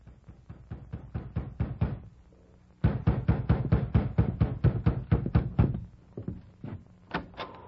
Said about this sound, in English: It must have been about midnight when I heard a knock at the door.